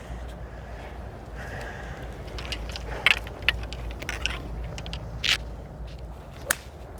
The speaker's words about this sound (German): Und zum Glück bin ich Rechtshänder und kann hier vernünftig stehen und habe eigentlich einen guten Schlag ins Grün. 140? Ja, 142. Wind ein bisschen von rechts hinten, links hinten.